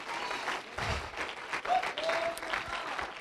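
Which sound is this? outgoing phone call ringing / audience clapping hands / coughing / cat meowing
audience clapping hands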